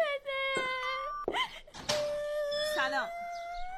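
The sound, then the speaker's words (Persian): A young girl wails and cries in long, high, drawn-out sobs, loud, with a few brief breaks and soft thumps between the cries. “گریه میکنه، من نمیدونم که کتش چی کنم.”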